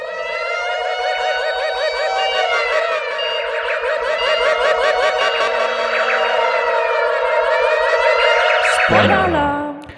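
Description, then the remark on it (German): A loud alarm siren sound effect, used as a spoiler alarm, wails steadily for about nine seconds, its tone warbling and wavering above a constant drone, then cuts off and winds down abruptly. No one speaks. “So, ich würde sagen, wir hören da in der Ferne langsam einen Spoiler-Alarm anlaufen.”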